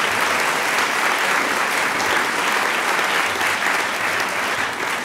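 Sustained applause from a large audience at an evening event, thanked by a German-speaking speaker as friendly applause; a dense, steady wash of many hands clapping at once, loud and even for the whole stretch, with no voices standing out.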